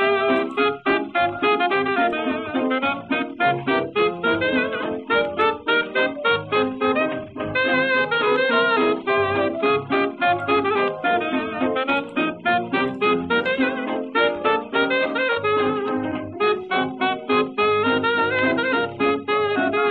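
A 1930s dance band tune plays throughout at a steady, bouncy tempo, its full ensemble sounding muffled and thin at the top like an old recording, with no talking over it.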